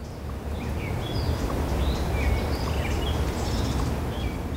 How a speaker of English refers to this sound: What you're hearing now, Christina tells us, is the sounds of maybe 5 or 6 species of birds, including the gray catbird, the house wren, the eastern towhee, and the wood thrush.